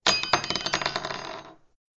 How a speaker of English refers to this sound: From behind her, she pulled a large round metal object. It was heavy and she panted as she pulled it into the centre of the room. "The humans call this a bell. When you move it, it makes a noise." She rolled the bell over and it tinkled.